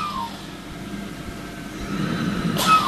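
A mechanical ventilator hums steadily with a faint tonal whine, its airflow swelling gradually before a sharp breathy hiss near the end as it pushes a breath through.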